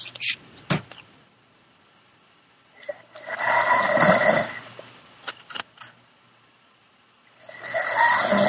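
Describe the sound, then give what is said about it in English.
A woman snores in long, raspy breaths: two drawn-out snores about three seconds apart, separated by quiet pauses and a few faint clicks or shuffles, with a third snore beginning at the end. “She's just snoring right next to me.”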